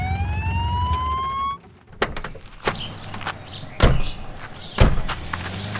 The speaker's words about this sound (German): Nach wenigen Minuten hatten sie das Ziel erreicht und der Kommissar stellte vor einer weißen Villa den Motor ab.